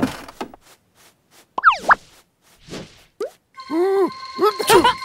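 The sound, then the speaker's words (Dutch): A cartoonish sneeze by Leo, a character in De reizen van Leo, builds from springy boing-like sound effects and short plops into a loud, wobbly, voiced burst near the end, clear. “Gezondheid, Leo.”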